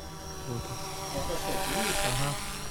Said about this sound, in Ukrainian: Опять дрончик над Січю літають. Якісь розвідчики.